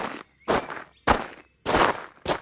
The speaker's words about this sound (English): While moving between stops, you'll hear footsteps.